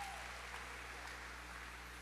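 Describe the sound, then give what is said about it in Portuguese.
An audience applauds two young people, a dense, steady wash of many hands clapping at once that holds evenly for about two seconds, soft in level, with a faint low hum beneath and no voices. “Dá uma salva de palmas para esses dois jovens.”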